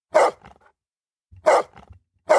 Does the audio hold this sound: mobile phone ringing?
no